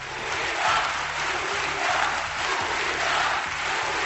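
A large crowd of delegates in a packed auditorium roars in a steady, dense wall of voices, with cheering and applause blending into collective chanting of "Unidad, unidad" (unity) from the stands, continuous and loud throughout.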